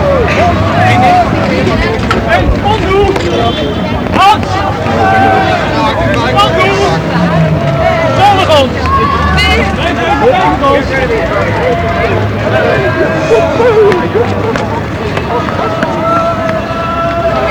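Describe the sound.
Outdoor crowd ambience with many overlapping voices chattering at once, steady and fairly loud throughout, with wind buffeting the microphone as a group moves along together, each carrying a torch, walking toward France.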